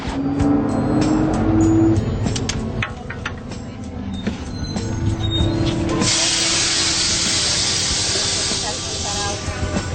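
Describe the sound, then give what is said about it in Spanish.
A city bus rumbles to a stop at a bus shelter, its engine droning with a brief high whine before a loud, steady hiss of air brakes takes over for the last few seconds. “Ante una marquesina, el perro guía debe localizar el autobús, que no siempre estaciona en el mismo sitio.”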